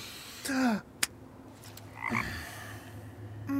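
animal, frog croaking

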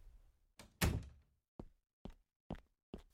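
household object, door closing shut

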